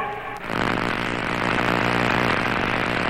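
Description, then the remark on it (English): A sci-fi sound effect of cosmic rays striking and penetrating a spaceship as it reaches a cosmic storm area: a brief hum, a sharp crack, then a loud, dense, steady roar with a low droning undertone. No one speaks. “Hear that? It's the cosmic rays.”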